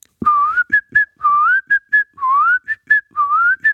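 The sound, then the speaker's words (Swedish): A person whistles the short, bouncy jingle of an ice cream van, alternating long upward-sliding notes with quick clipped chirps in a steady rhythm. No talking, just the clear whistled tune. “Men jag visslade ljudet som gurkan spelar i gurkagingen.”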